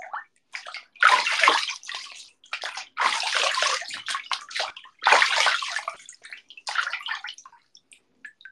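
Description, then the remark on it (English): Water sloshes and splashes in a bathtub in a series of lively surges about every two seconds, with smaller trickles and drips between them. No one speaks. “How much is this wa bath water worth to you guys?”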